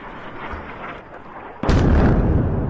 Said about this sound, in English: The sound of a conflict which shows no sign of letting up. More explosions tore through the Lebanese capital today in the Hezbollah stronghold of southern Beirut, as Israel said it had struck the group's intelligence headquarters.